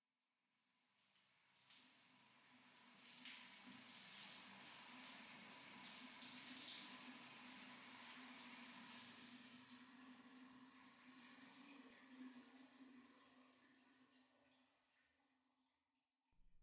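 A shower runs in a love hotel in a steady, hissing spray, loud for the first several seconds before easing to a softer, quieter flow with a low pipe hum, ending in a brief knock.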